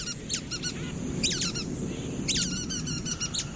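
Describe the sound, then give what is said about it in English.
Nuthatch calls ring out in quick bursts of short, nasal, squeaky notes, clustered in rapid series over a low rumbling background with no talking. “A resourceful bird, the nuthatch.”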